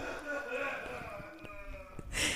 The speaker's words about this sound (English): You keep sniffing?